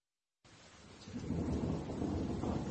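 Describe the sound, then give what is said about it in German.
Heavy rain pours down with a deep, rumbling thunder swelling underneath, starting abruptly and building to a loud, steady roar with no voices present. “Doch da begann es auf einmal zu regnen. Oje, wie heftig es regnet.”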